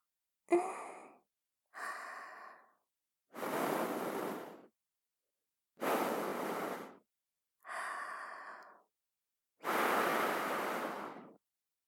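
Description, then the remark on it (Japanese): Six soft breaths blown into the ear in a slow sequence to blow away dirt left in the ear, each about a second long with pauses between; the shorter ones have a faint sighing tone, the longer ones are airy hisses, with no talking. “最後に息もかけちゃいます。”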